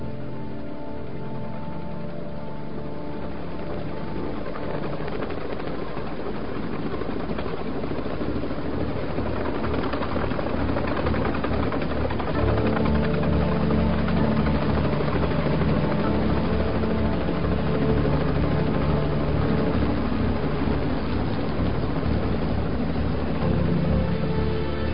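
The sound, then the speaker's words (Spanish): Helicopters drone steadily overhead, a dense, rumbling rotor noise that holds throughout and swells slightly louder partway through, with no voices. “Más lejos, mientras Montag se movía en la oscuridad, pudo escuchar que los helicópteros caían, como los primeros copos de nieve del largo invierno que se aproximaba.”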